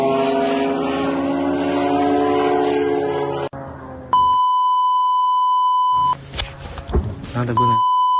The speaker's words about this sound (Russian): Вот дрон летает. Я его вижу, но камера его не видит. Он пролетел.